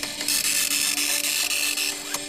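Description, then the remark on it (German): A dot matrix printer printing letters built from individual dots: a loud, continuous, raspy high-pitched buzz over a steady mechanical whine, broken by brief dips every fraction of a second as the head works across lines. No voices. “Das ist ein Matrixdrucker, der setzt die Buchstaben aus einzelnen Punkten zusammen, wie man hier ja auch ganz deutlich sehen kann.”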